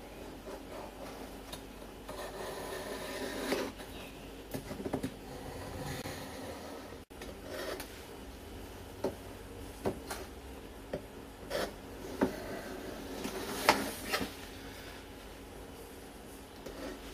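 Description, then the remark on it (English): Repeated sharp cutting and scraping sounds, fairly quiet, as a knife cuts through firm caramel fudge, chilled in the fridge for a couple of hours, on a board, with irregular clicks and thuds between strokes and no talking. “All right, well, that's been in the fridge for a couple of hours and it looks nice and firm. So let's start cutting it up.”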